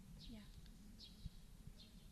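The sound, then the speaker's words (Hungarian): Sparrows chirp a few times in short, high bursts spaced about a second apart, fairly faint over a low, steady background rumble. “Hallott például most a verebeket?”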